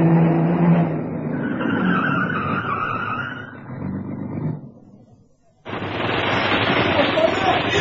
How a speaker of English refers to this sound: Just then, as I had arranged, a fat black saloon turned in from the 4th Street at Main and stopped outside the Harling Gallery.